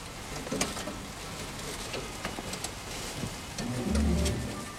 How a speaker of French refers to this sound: On entendait des gouttes de pluie sur le zinc.